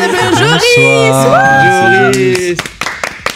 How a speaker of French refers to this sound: Bah déjà on a quelqu'un de nouveau à la technique, et pas des moindres. Et un tonnerre d'applaudissements.